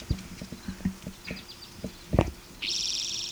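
A bird call: a loud, rapid high-pitched trill that starts abruptly near the end, after a run of irregular horse hoof clip-clops and a few faint chirps.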